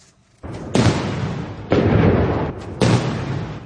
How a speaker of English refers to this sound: A 100-cannon salute kicked things off at Tiananmen Square in Beijing.